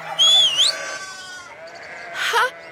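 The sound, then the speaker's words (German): Two wavering sheep bleats, a long quavering call followed by a shorter one after a brief pause, fairly loud with no voices. “Pfeift dann bitte jetzt mal jemand die Schafe zurück?”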